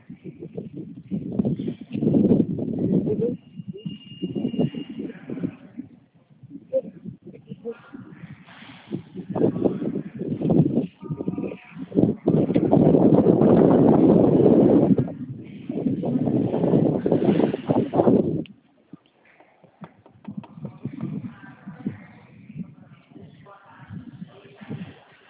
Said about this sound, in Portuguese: Tá um ventinho aí, né? É vento da rua ou é ventilador? Não, é o vento aqui da área, tá aberta.